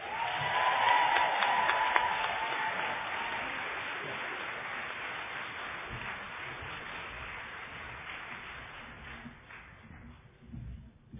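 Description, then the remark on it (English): An audience at a 50th OA birthday party claps for the opening speaker in a dense, steady burst of applause that starts strong and slowly thins out over about ten seconds, with no one speaking over it. “And now let's stay in the spirit of keep putting our hands together and clapping for those.”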